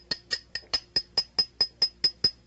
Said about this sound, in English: Here's a 20-penny spike, 50-cent hammer, and a no-sense head. I'm going to drive a spike in my head.